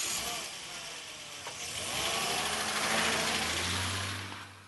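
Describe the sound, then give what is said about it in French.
A car engine runs steadily, its rumble swelling louder for a few seconds before easing off slightly as the vehicle pulls away, with no voices. “Allez, hop ! Montez dans la voiture.”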